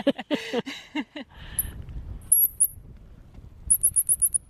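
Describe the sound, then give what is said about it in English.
A bird call played back through small speakers by people down the hill to get birds to respond: thin, high-pitched chirps in scattered pairs, then a quick run of five, over low rustling wind noise, after a brief lower, harmonic warble. “I got for a second quite excited because I thought I'd heard the bird, but that's just you and Kerry down the hill playing calls from little speakers.”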